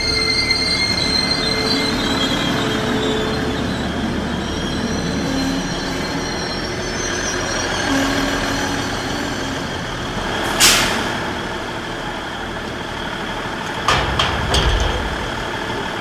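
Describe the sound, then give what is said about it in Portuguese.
A train travelling from Vila Real de Santo António towards Lagos in the Algarve rolls steadily along the rails with a continuous rumble, punctuated by sharp, high-pitched wheel squeals around the midpoint and again near the end; no voices. “Deixamos Vila Real de Santo António a caminho de Lagos. Temos obrigatoriamente de parar em Faro. Não há comboios diretos.”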